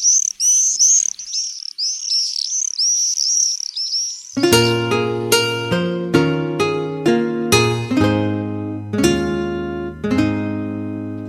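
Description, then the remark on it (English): A flurry of shrill, high-pitched bird screams streaks overhead for about four seconds, dense and continuous, before soft piano chords take over and the calls fall silent. “Their joyful screaming will be hushed, the very air no longer ripped apart by those wings.”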